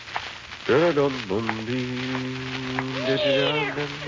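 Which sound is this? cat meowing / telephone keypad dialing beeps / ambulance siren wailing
cat meowing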